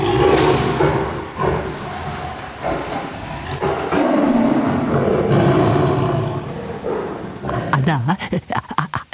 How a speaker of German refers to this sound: Ich lege das Stück Fleisch von außen in einen Metallkorb am Gitter, wo der Tiger es sich von innen holt und uns deutlich sagt, dass er es nun nicht mehr hergibt.